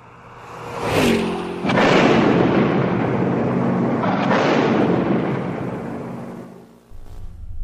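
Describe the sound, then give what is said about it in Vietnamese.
A mine thrown under a car carrying American soldiers explodes with a sharp blast, blowing the car into the air, followed by a heavy, sustained roar and rumble that swells again midway before fading, with no voices present. “Mìn nổ tung cả chiếc xe ô tô lên trời.”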